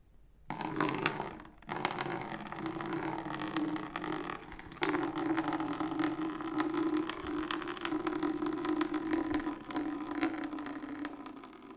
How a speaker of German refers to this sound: Hier gieße ich Wasser aus einem Krug in einen Kübel.